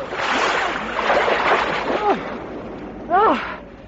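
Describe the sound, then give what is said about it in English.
A person plunges into the sea: steady, rushing splashes of water churn for several seconds, with a couple of brief vocal exclamations rising over the sloshing near the end. “Oh, the water's fine.”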